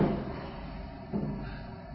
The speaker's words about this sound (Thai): ปิดช่วยปิดประตูด้วย